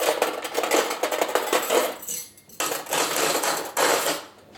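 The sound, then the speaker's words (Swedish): Busy metallic clinking and rattling as cutlery is lifted out, handled and put into serving dishes, a near-continuous jangle broken by two brief pauses, with no voices. “Så, och så ska vi kanske ha bestick i de här.”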